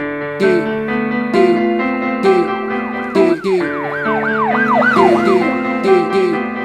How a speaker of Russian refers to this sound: Улицы жмурятся от мигалок под вопль сирен. Рикошет эхо под стен.